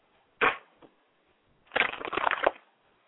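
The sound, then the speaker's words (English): Playing cards being shuffled before some cards are pulled: a brief papery riffle, then a longer, denser flutter of cards lasting under a second, crisp and moderately loud with no talking. “And also, while we're sitting shuffling,”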